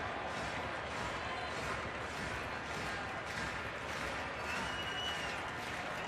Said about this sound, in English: Crowd getting to their feet. All 20,132.